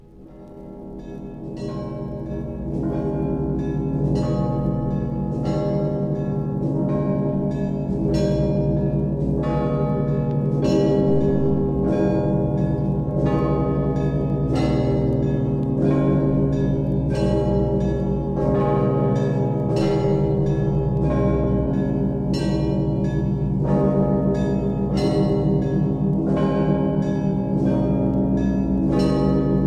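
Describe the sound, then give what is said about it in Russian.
A full church bell peal in Rostov, the Ioninsky peal, rings steadily, several bells struck in a repeating pattern over a deep, sustained hum of low bells. Loud and resonant throughout, with no voices. “Из всех ростовских звонов так называемый Ёнинский звон наиболее строгий, ясный и торжественный.”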